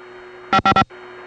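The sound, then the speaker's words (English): A steady, hissy hum from the 2111 telephone conference line on the Vancouver step tandem, recorded while calling in with nobody on it, with a faint constant tone running through it, briefly interrupted by three loud, quick bursts of noise before the hum resumes. “But the background hum of that conference is famous in itself.”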